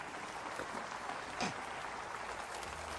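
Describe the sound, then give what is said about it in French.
An audience at a morning church service claps together, applauding God who answers prayer, in a steady, dense patter of applause that holds at an even level for the whole stretch, with no voices standing out. “Et si vous l'avez vécu dans votre propre vie, criez amen dans ce lieu ce matin et applaudissez le Dieu qui répond à la prière.”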